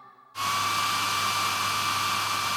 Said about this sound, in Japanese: よし、ドライヤーオッケー。